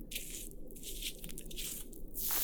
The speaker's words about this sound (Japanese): お耳全体を泡で優しく包み込んでいきます。